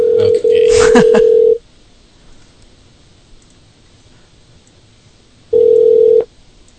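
An outgoing Skype call's ringback tone: a steady low electronic beep sounds for about a second and a half, falls silent for several seconds, then repeats briefly, with a short rustle during the first tone.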